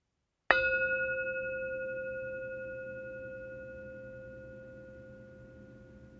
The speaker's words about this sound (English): When you hear the bell ring, just bring your attention to it and then wait for more instructions.